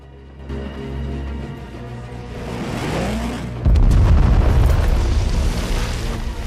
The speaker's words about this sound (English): Forcing a path through the tightly packed throng of soldiers on the mole, Tommy's brought up sharp when Gibson stumbles as everyone cowers at the sound of a nearby explosion.